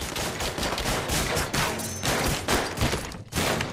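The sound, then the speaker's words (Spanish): Sustained bursts of gunfire crackle in a dense, nearly continuous barrage, loud, with sharp volleys repeating every half second or so and no voices; the bullets pass through the walls of a home and the bursts light up the windows. “Se ve cómo los balazos traspasan las paredes, se iluminan las ventanas por las ráfagas.”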